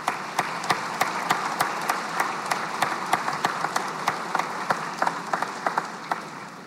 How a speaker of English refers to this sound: I appreciate the hard work of our Senate staff in front of us here. They are true public servants who spend many long days and late nights keeping us on track and moving us forward. We need to give them an applause, please, for the work that they do.